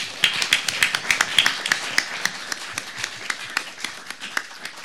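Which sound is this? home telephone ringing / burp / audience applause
audience applause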